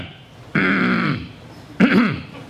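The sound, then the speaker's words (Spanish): A person imitates clearing their throat and coughing: a long, rough, voiced rasp followed by a shorter gruff hack, both fairly loud with a brief pause between. “Aunque no tenga deseo de toser, es que sin darnos cuenta, nos molesta el silencio.”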